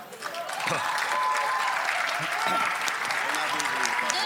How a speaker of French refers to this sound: En tout cas, applaudissez-la.